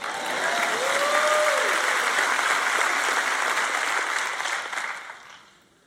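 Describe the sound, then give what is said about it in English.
A church audience applauds during a sermon in a dense, steady wash of clapping that holds for several seconds, with a faint voice briefly audible underneath, then tapers off and fades out at the end. “See, you're not clapping as loud as you were for some of the other stuff.”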